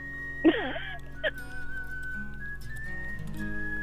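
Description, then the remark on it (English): A whistled melody in the style of a spaghetti western theme: a sharp swooping burst, then a long, clear whistled line holding and stepping in pitch over a faint, busy musical background. “Oh, it sounds like a spaghetti western theme.”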